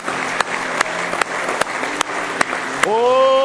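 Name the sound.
audience hand clapping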